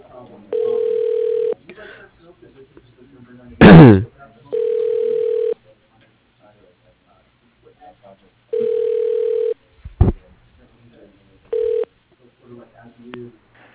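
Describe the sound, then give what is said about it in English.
A telephone ringback tone buzzes in repeated steady bursts, about one to one and a half seconds each, as an automated phone system transfers a call to a person's extension, with sharp clicks between rings and a faint murmur underneath. “Transferring to Eric Sullivan. One moment, please.”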